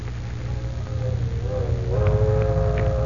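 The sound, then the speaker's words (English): Steam train 609 rumbles heavily through the night, climbing into the mountains on its way to Duncan Ridge, while a low, mournful whistle sounds over it, its steady tones wavering and rising slightly as the chugging roar grows louder. “Train 609 is thundering through the night on its way to Duncan Ridge.”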